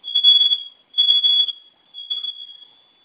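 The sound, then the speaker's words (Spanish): A security system alarm sounds in three long, piercing high-pitched beeps with brief gaps between them, the last one a little quieter, after both fire buttons on the arming keypad are pressed together for 5 seconds to enter a new code. It is loud, with no voices. “Y va a sonar su alarma.”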